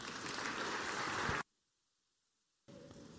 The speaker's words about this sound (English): Give them a clap.